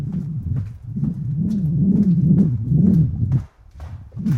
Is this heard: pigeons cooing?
yes